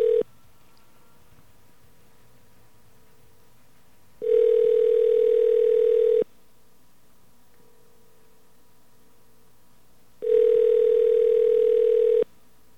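phone line ringing unanswered

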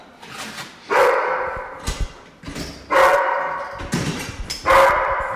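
dogs barking

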